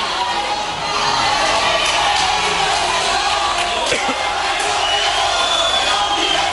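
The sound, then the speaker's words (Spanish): A crowd at a university event stands up and shouts at a speaker together in a dense, continuous loud roar, chanting that he is a sellout of workers and should leave the university, with no clear pauses or single voices standing out. “Y entonces se levantan unos y empiezan a gritar, no fuera fascista, sino...”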